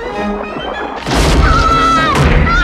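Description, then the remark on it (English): After a soft musical start, a loud, sustained crashing and crunching erupts as a shark chews up wooden floorboards while chasing, continuous until the end. “It follows them, crunching up the floorboards.”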